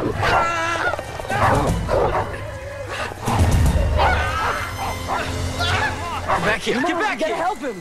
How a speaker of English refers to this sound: The dog and Luke roll downhill. Matt, John and Noah look down as the two dogs savage Luke while he struggles to fight them off.